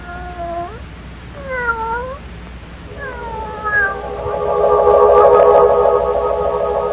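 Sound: cat yowling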